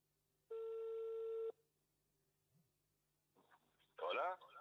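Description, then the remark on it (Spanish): A single steady ringback tone of about one second on an outgoing phone call to a national deputy, followed by a pause with faint line hum, then a voice answering over the phone. “Ahí está sonando el teléfono al diputado nacional Fabián Borda.”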